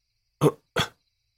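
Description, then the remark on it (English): Two quick, muffled bursts of breathy noise in close succession, like someone stifling a sneeze, each cut off abruptly, with silence around them and no talking. “Like someone trying to stop themselves from sneezing.”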